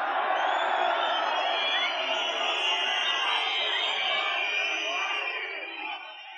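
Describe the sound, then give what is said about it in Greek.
A crowd applauds and cheers loudly and continuously, a dense wash of clapping with whoops and shouts, holding steady before easing off slightly at the very end. “Λίγο πιο ήπια τα χειροκροτήματα, σας παρακαλώ πολύ.”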